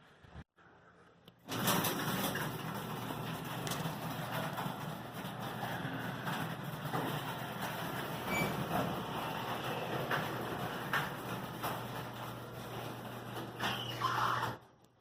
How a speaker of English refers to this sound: I'm going to close the garage door and show you what it looks like with the lights out.